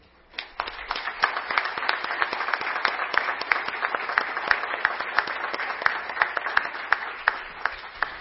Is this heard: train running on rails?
no